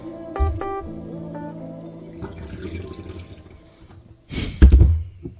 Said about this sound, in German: Ich liebe das Geräusch. Hast du das Plätschern gehört? Ja. Yeah. Schön. Das ist echt wie früher in meiner Wohnung in der Gärtnerstraße, wenn die Nachbarin aufs Klo gegangen ist. So schallt es bei mir durch die Wohnung.